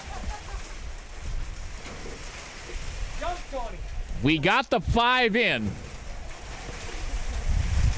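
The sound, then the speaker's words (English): Steady heavy rain hisses and pounds throughout, a dense continuous wash of noise, during a rain-halted baseball game in Sobieski, while a man speaks briefly in the middle over the downpour. “As the rain continues to pound down here in Sobieski.”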